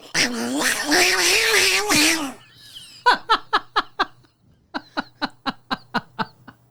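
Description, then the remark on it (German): A person imitates fighting cats with a loud, wavering, drawn-out yowl lasting a couple of seconds, followed by two bursts of rhythmic, staccato laughter. “Kann sehr gut kämpfende Katzen machen, Leute.”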